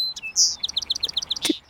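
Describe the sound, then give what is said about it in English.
A song sparrow sings a short, bright song: a few sharp introductory notes and a buzzy whistle, then a quick, even trill of repeated high notes, clear. “We're hearing a song sparrow over here.”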